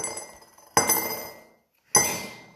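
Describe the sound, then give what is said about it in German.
Three one-euro coins clink into a 'Corona-Kasse' cash box, one euro for each time 'Corona-Zeit' is said: three bright metallic chinks, each ringing out and fading, with brief silent gaps between them and no talking. “Also schon mal 3 Euro in die Corona-Kasse.”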